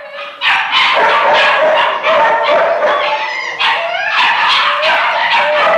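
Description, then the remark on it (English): A chorus of many dogs barking and yipping at once in the downstairs room where the dogs are quartered, loud and continuous, with overlapping barks and a few howling, whining tones echoing. “Tony was passed on to an attendant who took him downstairs to the room where the dogs are quartered.”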